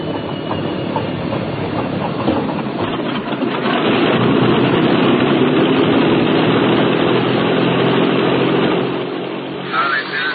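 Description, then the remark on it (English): The big propeller port engine of a bomber turns over and catches, swelling into a loud, steady droning roar that holds at idle, with a brief murmur near the end. “Starting port engine. Starting port engine.”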